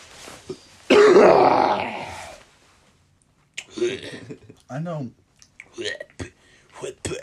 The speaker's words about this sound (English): Oh, the cough just gave me some sensation.